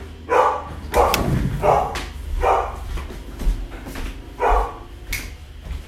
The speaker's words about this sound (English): hang on one second, my dog is barking. One second, hold that thought, don't leave me.